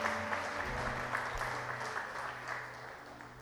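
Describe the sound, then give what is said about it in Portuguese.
An audience applauds steadily, a dense wash of clapping that holds fairly loud for the whole stretch before easing slightly toward the end, with faint murmuring underneath. “Você pode aplaudir o Senhor, querido?”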